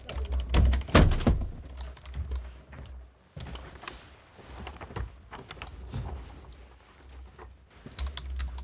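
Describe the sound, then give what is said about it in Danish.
Irregular clatter of keys on a computer keyboard, with a burst of heavier keystrokes near the start, a brief pause, then steady typing resuming with no voices. “Sidder du og skriver?”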